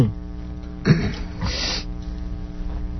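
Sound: cough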